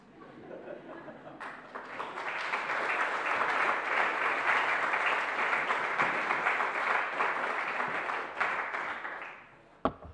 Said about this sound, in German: So, das ist schön, dass man auch mitten in der Predigt mal klatschen kann. Das ist echt eine Qualität.